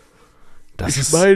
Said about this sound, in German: Ich meine, ich habe mal richtig korrekt, du gähnst einfach wie so ein Tier. Entschuldigung. Meinst du, das hört man?